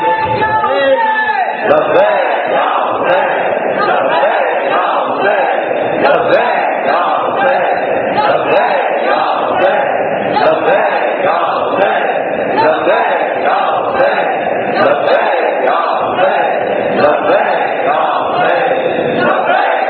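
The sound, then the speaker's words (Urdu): A large crowd chants slogans together in loud, steady unison, the repeated call-and-response rhythm pulsing about once every second and a half without pause. “آپ نے نعرہ لگانا ہے، پورے جذبے کے ساتھ لگائیے، پوری طاقت کے ساتھ لگائیے، اپنے پوری جذبے کا اظہار کرتے ہوئے نعرہ لگائیے.”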